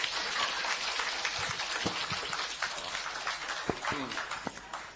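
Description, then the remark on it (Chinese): Audience applause at a lecture: many hands clapping in a dense, steady patter that holds at an even loudness for the whole stretch, with no voices over it. “爱听拼命鼓掌吧，你鼓掌这么少。”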